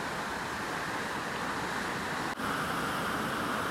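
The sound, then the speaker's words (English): A steady, full roar of river water crashing over rocks in a woodland, continuous and fairly loud with no pauses; no voices. “I can also turn my ears to the sound of the water crashing over the rocks”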